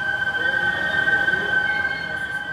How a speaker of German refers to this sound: Dieses Pfeifen, das ist das Wasser der Seine, das durch die Filter in die schwarzen Rohre hier fließt. In den Filtern fließt sie schneller und deshalb pfeift sie.